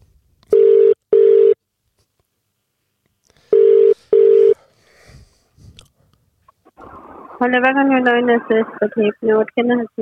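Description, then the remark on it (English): A telephone ringback tone, from a call to a Domino's pizza shop in Perth, sounds in two double-pulse rings, clear and steady, with faint clicks after. A voice then comes on the line, talking at the end. “I'm ringing them in Perth.”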